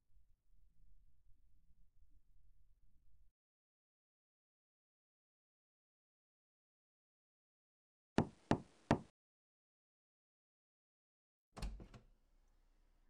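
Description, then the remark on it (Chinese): Three quick, sharp knocks rap on a door, breaking a long silence after a low rumble fades; a few seconds later comes a single heavier thud with a short rattle. “我还以为你不会开门呢。”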